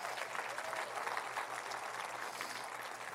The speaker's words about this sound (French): Voulez-vous applaudir avec joie, c'est la joie qu'on a.